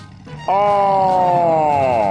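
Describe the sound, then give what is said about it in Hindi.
A deep, drawn-out creature roar, the thunder-like voice of one of the four living creatures as the Lamb opens the first seal, with a strong harmonic tone that rises sharply and holds loud for nearly two seconds, its pitch slowly sinking as it fades into a groan. “मैं देखे कि मेमना उहमासा पहले मोहर तोड़ेस, और तब ही उन चार प्राणियन मा सा एक का बादर का तरह गर्जत आवाज मा कहत सुनेउ।”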